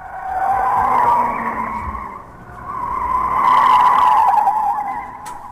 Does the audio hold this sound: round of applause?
no